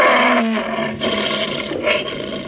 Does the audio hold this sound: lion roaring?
yes